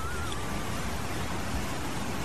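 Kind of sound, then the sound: nature, small waterfall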